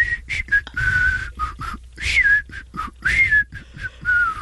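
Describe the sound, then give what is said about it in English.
A man whistles a song melody slowly, at half speed, holding long, steady notes with gentle pitch glides between them, with faint breathy noise and light background sounds but no talking. “At least he's whistling it at half speed.”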